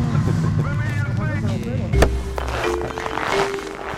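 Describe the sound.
An old snowmobile engine idles steadily with a low, rumbling drone, with a sharp knock near the middle. Faint voices can be heard over it.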